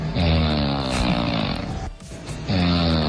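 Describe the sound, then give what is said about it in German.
Loud, rasping snoring from a man, two long rattling breaths with a short pause between them and no one talking. “Der Eintritt ist allerdings der Schnarchbeweis Ihres Partners.”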